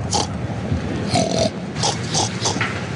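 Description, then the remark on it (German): A pig in France grunts in a series of short, snorting bursts, about five or six nasal oinks spaced unevenly over a few seconds, moderately loud with no talking. “Wie sollen sich denn Deutsche und Franzosen verstehen, wenn schon ihre Schweine eine andere Sprache sprechen? In Frankreich?”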